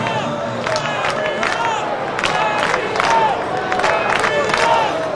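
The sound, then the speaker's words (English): A large baseball stadium crowd cheers and roars steadily after back-to-back strikeouts by pitcher Hubbard, the second on a curveball for a called strike three. Many overlapping voices and shouts rise and fall across the whole stretch, loud and continuous with no single voice standing out. “Now listen to the crowd.”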